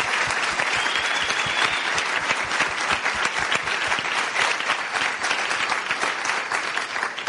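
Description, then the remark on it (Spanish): Loud, sustained applause from a large audience at a leaders' meeting, applauding the leaders, dense rapid clapping filling the whole stretch at a steady level with no voices standing out. “Así que, por favor, pido un fuerte aplauso para todos sus líderes.”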